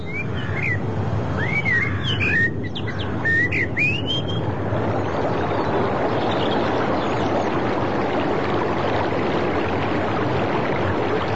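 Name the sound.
flowing river water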